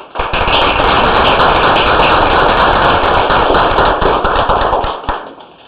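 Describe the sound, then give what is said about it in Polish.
A crowd claps steadily at a science scholarship award ceremony, producing a dense, loud wash of many overlapping hand claps with a few sharper individual claps standing out, sustained for several seconds before tapering off. “Wielkie brawa.”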